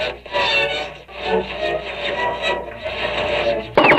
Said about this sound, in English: Oh god, the static is coming again. Oh no, you know what this is gonna... Oh, gee.